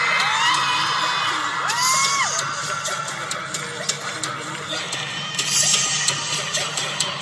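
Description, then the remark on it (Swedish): A huge crowd in the Globen arena cheers and screams wildly while the dancers The Sugar Collective perform, with sustained roaring noise, high whoops and rising shrieks piercing through, and sharp bursts of clapping and yelling that swell loudest near the end. “Och vi hör hur publiken är helt insane.”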